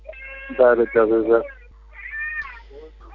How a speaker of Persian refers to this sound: الان بله، با شما که صحبت میکنم صدای گریه بچه ها میاد